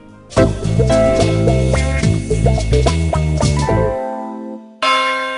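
Church bells ring out loudly, several overlapping strikes blending into a rich peal that fades away before one more bell tolls at the end. No voices.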